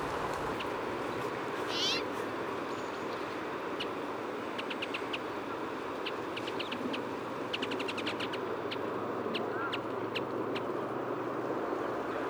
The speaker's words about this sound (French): Grive Mauvis. Migrateur de Scandinavie. Qui a dû voler toute la nuit et là qui se pose au sommet d'un arbre.